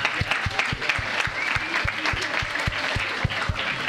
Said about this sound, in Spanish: Le vamos a dar la palabra para poder empezar esta charla. Un aplauso, por favor.